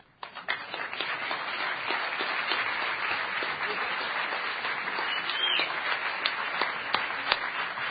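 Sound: audience applause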